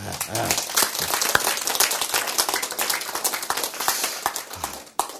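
A crowd applauds steadily, a dense crackle of many hands clapping at once that holds fairly loud for the whole stretch before cutting off.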